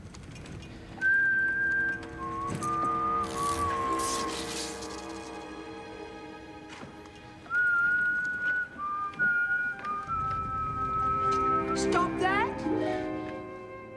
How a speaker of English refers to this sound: Don't you know it's bad luck to whistle in a theater?